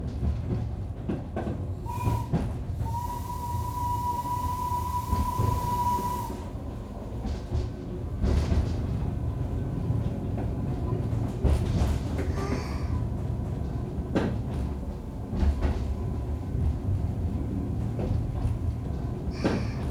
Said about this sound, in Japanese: やっぱり上手な機関士さ。2回連続完全無衝動での引き出し、お若い方に見えましたが、なかなかの技量ですわね。